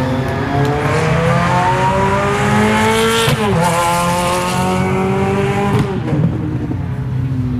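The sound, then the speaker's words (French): Loud racing car engines roar continuously around the Circuit du Val-de-Vienne at Le Vigean, near Poitiers, France, during the Sport et Collection anti-cancer event, rising in pitch as they accelerate, with one car sweeping past midway and its whine dropping sharply as it goes by. “Les participants observaient les voitures passant à toute vitesse sur le circuit”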